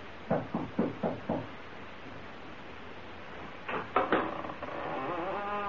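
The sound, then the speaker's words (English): Four quick, firm knocks on the door of the only house on Bald Hill, a pause of a couple of seconds, then three more raps before a voice starts to answer. “You knock, Skeezix.”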